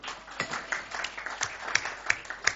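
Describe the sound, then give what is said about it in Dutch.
An audience applauds with a steady patter of many hands clapping, dense and moderately loud, with sharper individual claps standing out now and then. No one speaks over it. “Mag wel een applausje voor gegeven worden.”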